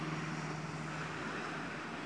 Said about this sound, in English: Here comes an aeroplane with a message.